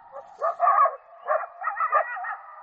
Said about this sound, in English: Closer to home, a coyote chorus in an eastern Washington canyon.